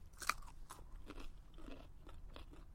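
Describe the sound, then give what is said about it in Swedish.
A sharp, crisp crunch as someone bites into a carrot rinsed in a barrel of rainwater, followed by several rough chewing crackles over a low steady background hum, with no talking. “Pallade morot.”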